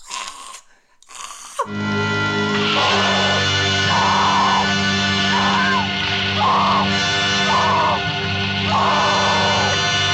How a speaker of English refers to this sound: Yeah, she's being smothered at the same time. Presumably, though, I always interpreted that as they didn't want people to hear her scream. Because we get this scream from Judy that's like...